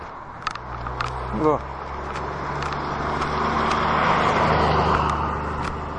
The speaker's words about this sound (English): That's a truck and a half going down. It's got its roo lights on the top.